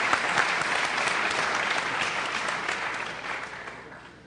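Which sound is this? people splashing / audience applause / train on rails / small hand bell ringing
audience applause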